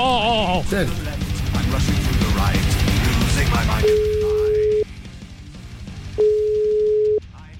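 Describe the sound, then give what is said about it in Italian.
A telephone call to Peru rings out: after a few seconds of busy, mixed sound, two long, steady ringback tones sound about a second each, separated by a short pause, clear. “Io le farei una telefonatina nel lontano Perù. Vai regia col numero!”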